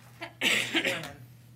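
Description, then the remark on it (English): A person coughs once during a meeting's roll call vote on a motion, a short harsh burst with a fainter sound just before it and a rough tail, over a steady low electrical hum. “I didn't hear what you said. Somebody coughed.”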